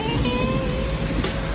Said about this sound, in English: A dark car parks on a curb.